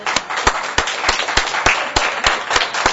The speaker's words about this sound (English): If you're a father, stand up. Let's give the fathers a round of applause.